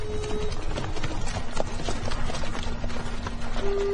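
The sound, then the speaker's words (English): Many horses' hooves clop in a dense, overlapping patter as a company of riders halts in a small town with a single street, steady and fairly loud against a busy background with a faint tonal hum. “Have them water the horses first.”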